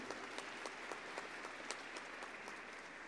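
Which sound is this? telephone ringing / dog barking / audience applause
audience applause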